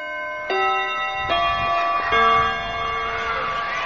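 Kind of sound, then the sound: signal or alarm, school bell ringing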